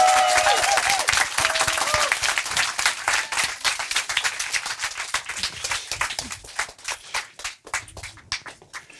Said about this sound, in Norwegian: og jeg lovte dem at dere skulle nå bryte gjennom lydmuren når dere klapper dem inn, så ta dem godt imot. Enda høyere!